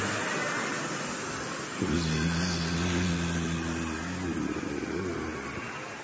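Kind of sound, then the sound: vocal imitation, people imitating buzzing bumblebees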